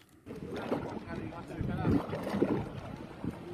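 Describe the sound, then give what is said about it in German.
Sea surf washing thick oil onto a shore on a beach in Mauritius, a steady low churning rush of water that swells in a few soft surges, with a wind-blown hiss running throughout. “Das sonst so normale Meeresrauschen klingt anders.”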